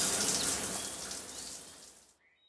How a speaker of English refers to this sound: Every evening, he has a shower.